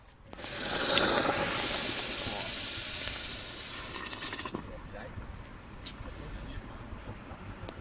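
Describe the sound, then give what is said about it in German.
A loud, sudden burst of sizzling hiss as a hot basalt stone of about 1.5-2 kg, taken from a fire, plunges into brewing wort to raise its temperature from 64 to 72 degrees for saccharification, roaring steadily for a few seconds before fading into softer bubbling and crackling. “So klingt es, wenn man einen, ich würde mal sagen, 1,5-2 Kilo Basaltstein aus dem Feuer in die Würze steckt, um auf welche Temperatur zu kommen?”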